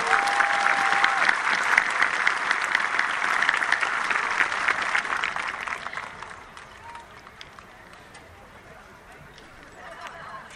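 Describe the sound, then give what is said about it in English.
A large audience at the 2025 Christian County High School commencement claps steadily for the salutatorian and valedictorian in a dense, sustained wave of applause that holds strong for several seconds, then gradually thins and fades to a softer patter. “Please give these outstanding students one last round of applause.”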